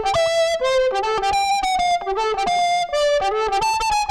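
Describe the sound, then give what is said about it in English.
Overdriven blues guitar through a combo amp plays a loud, continuous melodic line of sustained notes with short pauses, with no voices. “Blues sound out of a combo amp.”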